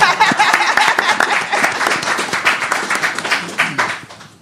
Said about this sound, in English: Go ahead. Clap.